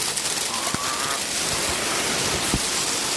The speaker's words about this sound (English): I'm in your bonnet, and it's hailing. So cool! I love hail!